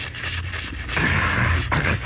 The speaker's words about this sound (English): Now, wait until I spray my throat. I've talked a good deal. It's become dry.